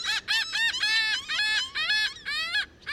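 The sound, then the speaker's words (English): A house finch in a street tree sings a lively, rapid run of varied warbling notes, fairly loud, continuing without pause through the whole stretch with no voices present. “Or hear a house finch belting it out from a street tree.”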